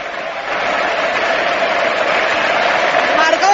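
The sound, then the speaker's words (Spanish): A huge crowd at the Camp Nou stadium roars and applauds in a sustained ovation for Pedro, who applauds back as Neymar comes on, a dense wash of clapping and cheering that swells slightly and holds steady for several seconds. “Se va a llevar la ovación del Camp Nou.”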